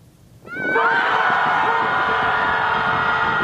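A group of people at an organized group-screaming gathering on the lakeshore beach in downtown Chicago, USA, scream together in one loud, sustained collective shout that bursts in suddenly and holds at full strength for about three seconds.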